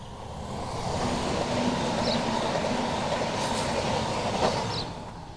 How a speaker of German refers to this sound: Und neben uns ist dann noch gerade die Bahnlinie. Warte, jetzt kommt gerade der Zug, jetzt warte eine Sekunde. Also zwischen Gürbe und Bahnlinie, wie man jetzt gerade gehört.